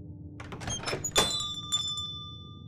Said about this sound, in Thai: ด้วยความตื่นเต้นเขาจึงรีบวางเครื่องรางลงก่อนจะเปิดประตูหน้าร้านและก้าวเท้าออกไปข้างนอก